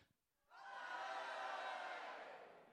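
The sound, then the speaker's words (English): An army bursts into a loud, sustained collective shout when the trumpet sounds, after a brief moment of quiet, holding steady at full volume for over two seconds like a battle cry. “When the trumpet sounded, the army shouted.”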